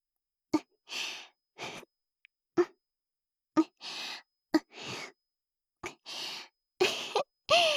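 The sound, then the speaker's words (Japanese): Wet squelching of slick, lubricated breasts rubbing up and down around a penis, arriving in paired bursts: a sharp smack followed by a slippery, hissing slide, repeated about six times with brief silent gaps and no talking. “おっぱいの中でおちんぽすごいぬぽぬぽしてる。”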